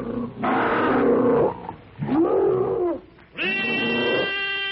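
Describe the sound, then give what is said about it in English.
Three harsh, roaring shrieks from two prehistoric ape monsters leaping from a pit with fangs bared, shrieking a challenge, each loud and sustained, the first rough and noisy, the second a wavering howl, the last a piercing, tonal scream. “With crooked fangs bared, wicked red eyes gleaming with rage, they shriek their blood-curdling challenge.”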